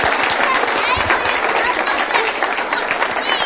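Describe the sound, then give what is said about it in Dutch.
Sustained audience applause, a dense wash of many hands clapping at steady loudness throughout, with some voices mixed in the crowd noise. “Nou, een groot applaus voor onze voorouders.”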